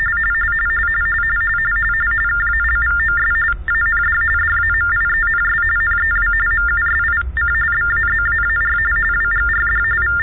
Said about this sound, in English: It's 9:35, 75, 36, 22 Martian Mean Time, and the following tones are for all our deaf fans out there in Radio Land.